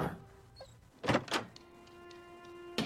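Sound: door opening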